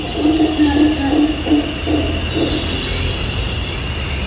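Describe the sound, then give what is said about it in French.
A passenger train locomotive rumbles steadily past, a continuous mechanical drone with a low hum and a thin high whine running throughout, fairly loud the whole time. “On fête les 200 ans de la première locomotive pour passagers.”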